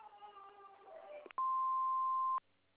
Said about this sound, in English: We're unable to come to the phone right now, so if you leave your name and number after the beep, we'll call you back as soon as we can.